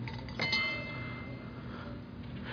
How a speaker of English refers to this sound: Let me illustrate. I brought a big old clanging gong. Look at this.